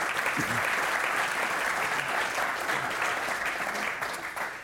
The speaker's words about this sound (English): All right, that ends our lightning round. Let's give them a round of applause for getting through.